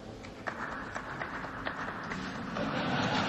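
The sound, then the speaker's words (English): Sparse, scattered clapping from a small number of hands after the president's remark on homeowners, uneven and irregular, with reverb from the room, over a steady wash of room noise that grows slightly louder toward the end. “A smattering of applause there, kind of weak applause.”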